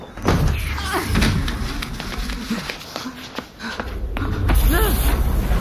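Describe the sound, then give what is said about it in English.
A heavy blast door in a bunker grinds along as it slides shut, a loud scraping rumble broken by a few clunks, with a deeper thud swelling near the end. “The door. What did you do to me?”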